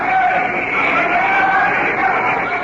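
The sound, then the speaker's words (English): Delegates and spectators at the League of Nations applaud Emperor Haile Selassie in 1936, a dense, continuous wash of clapping, loud and steady for the whole moment, with faint crowd murmur blended in and no distinct voices. “Other delegates and spectators applaud the emperor.”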